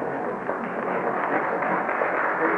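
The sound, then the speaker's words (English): An audience applauds, many hands clapping together in a dense, even wash of sound that stays steady and moderately loud throughout, with no voices over it. “Please do not take valuable time with applause for a while.”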